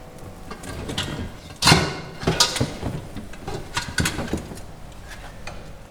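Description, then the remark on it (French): A shearing clipper driven by a cardan shaft runs with its motor at slow speed, a steady mechanical whir and rattle, broken by a few sharper clacks and knocks, with no talking. “C'est la même tondeuse, c'est le même cardan, même moteur. Par contre, le moteur il est en vitesse lente.”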